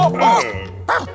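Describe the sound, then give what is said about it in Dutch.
A dog yelps sharply, a high whining cry followed a moment later by a second shorter yelp, with no talking around it, as it accidentally bumps into a man in a hat and long dark coat in a hall where paintings hang. “de hond botst per ongeluk tegen de man met de hoed en de lange donkere jas aan, die net haastig de zaal uitkomt.”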